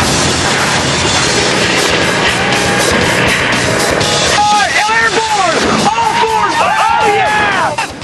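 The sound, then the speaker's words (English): A race car engine roars loudly and continuously as the Bad Boys team's car runs on nitrous oxide through the mogul and dune-ridden Sun's Anvil course. Its pitch surges up and down in repeated revs during the second half over a wash of crowd-like noise. “The Bad Boys hit their nitrous oxide, but can their engine take it?”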